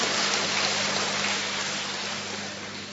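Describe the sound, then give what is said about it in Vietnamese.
A church audience claps steadily together to welcome a witness, a dense crackling wash of many hands that holds for a few seconds, then eases slightly toward the end. No one speaks. “Chúng ta cho một tràng pháo tay để gặp gỡ một chứng nhân.”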